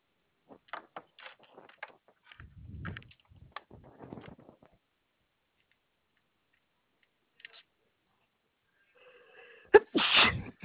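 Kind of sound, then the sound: human body sound, a person sneezing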